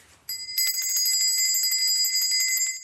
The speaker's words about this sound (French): Alors, cette cloche... Pourquoi ? Donc c'est une cloche qui nous vient de Gretna Green. Gretna Green, c'est le premier village écossais à la frontière avec l'Angleterre sur la route entre Londres et Édimbourg.